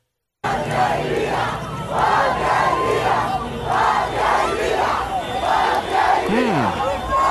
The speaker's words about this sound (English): That was a strange situation in Cuba this weekend, where large groups of people gathered to yell random words in unison.